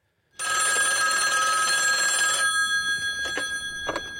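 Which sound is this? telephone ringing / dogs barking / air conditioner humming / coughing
telephone ringing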